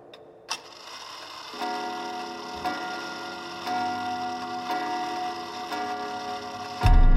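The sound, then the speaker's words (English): An old clock ticks and then strikes six resonant chimes just before dawn, evenly spaced strokes ringing over one another, each about a second apart, with no voices. “The old clock chimed 6 times.”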